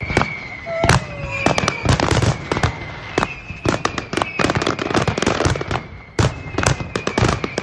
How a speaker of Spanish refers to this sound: Así es como sonaba. Hace exactamente un año, el disparo del Castell de Loya, el mayor espectáculo piroacuático del Mediterráneo que volverá a iluminar la Bahía de Altea el próximo sábado.